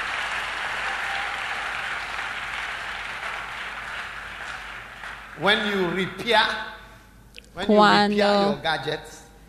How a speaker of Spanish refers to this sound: Dale al Señor un aplaude.